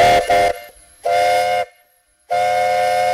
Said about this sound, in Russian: Кстати говоря, вот и сейчас мы поближе подходим, и я сейчас постараюсь записать на свой микрофон этот звук четко работающего и громко кричащего на нас парового трактора.